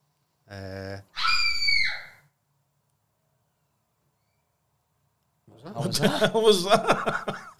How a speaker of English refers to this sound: Some noises, some screams.